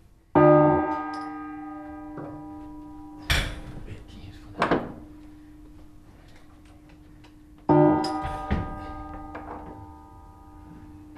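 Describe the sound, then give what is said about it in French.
Two loud, ringing strikes of fixed bells several seconds apart, each humming with long, slowly fading overtones, while mechanical clunks and knocks of the clapper rigging sound in between; no one speaks. The bells' clappers are pulled by a cable. “Voilà, donc le battant de la cloche. C'est le battant qui fait le est accroché à, donc il vient au système.”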